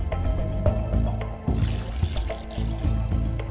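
Liquid is poured onto the ground as a libation in a steady, gurgling stream, a continuous splashing and trickling with low rumbling bursts, lasting several seconds with no voices.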